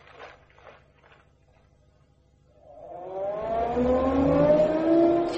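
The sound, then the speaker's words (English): A car engine rises from quiet, its revving pitch climbing steadily as the car draws closer and grows loud, ending in a strong rumble. Faint footsteps or shuffling come first. “Where on earth did you get a car?”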